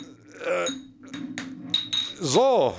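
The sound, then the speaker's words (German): Glass beer bottles clink and rattle as they are pulled from a crate, a few sharp knocks, with a voice murmuring briefly toward the end. “Flasche Bier irgendwie? Ja, aber ich muss mal eben... Ich müsste doch hier unten... Ah ja, hier ist ein Kasten, ja.”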